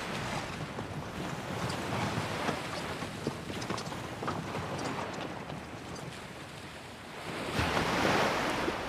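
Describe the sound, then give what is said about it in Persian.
Steady ocean surf rolls and washes, a continuous rushing hiss of breaking waves with a louder surge toward the end, with no voices; the sea by the port of Astrakhan at dawn, as men launch boats into the water. “اونا پشت تپهی پنهون میشن و سفر بیگ و میبینن که با افرادش به دریا قایق میندازن.”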